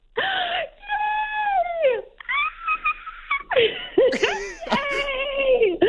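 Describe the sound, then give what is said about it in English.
A woman at work lets out a series of loud, high-pitched excited screams and squeals, sustained and wavering, with brief breaths between them, overlapping bits of other voices. “I feel like your scream might have represented a dog whistle for all the dogs listening at home.”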